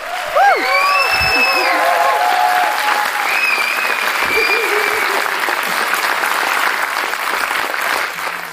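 Loud, sustained applause from a live audience fills the whole stretch, dense and steady, with excited whoops and whistles rising above the clapping early on.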